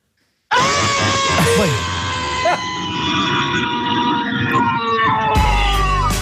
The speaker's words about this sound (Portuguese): Eu estou completamente frustrado por estar nesse trânsito de Lisboa hoje. Então, a minha frustração hoje, eu vou tirá-la através de um grito para vocês.